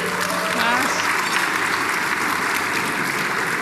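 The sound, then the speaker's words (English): An audience at an event applauds a sponsor steadily for several seconds, a dense, even wash of many hands clapping at once, with a faint voice briefly audible underneath near the start. “All right, this is going to take ages if we clap for everyone, because there are a lot of sponsors.”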